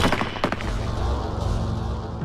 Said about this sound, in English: The deafening explosion of the 8 rifles